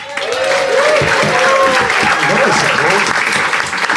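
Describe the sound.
Sustained audience applause fills the whole stretch as a participant begins the case for the prosecution, a dense, steady clatter of many hands clapping at a loud, even level, with a few cheers and voices rising through it.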